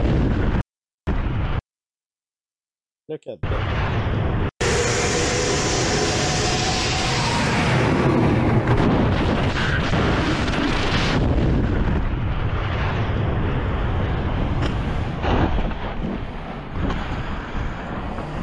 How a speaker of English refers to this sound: He sees his plane blow up on the left. Wow. Absolutely scary.